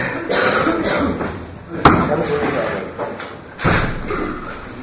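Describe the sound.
A single sharp knock-like thud of a door closing or opening cuts through midway, fairly loud, amid a continuous murmur of voices and background noise.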